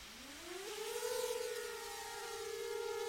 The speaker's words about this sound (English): Megan Farmer, my photographer, flies a drone from a county road over this acreage just before sunset